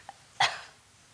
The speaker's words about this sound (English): Excuse me, I have a terrible cough.